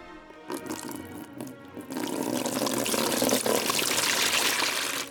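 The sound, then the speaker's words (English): Rubbing alcohol from 666 bottles pours steadily through a funnel into a water cooler, a broad gurgling splash that starts softer, then swells louder and continuous after a couple of seconds, with no talking. “Using a funnel, empty all 666 rubbing alcohols into the water cooler.”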